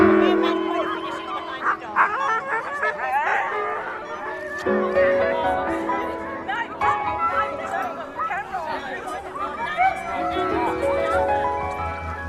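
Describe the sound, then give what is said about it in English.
A noisy chorus of excited dry-land sled dogs at a race starting line at a scout camp in Kyalla near Shepparton, Australia, barks, yips and whines over one another without pause, loud, with indistinct human voices mixed into the commotion. “But when you see the dogs at the starting line just champing at the bit and so excited to run, it's why they're here.”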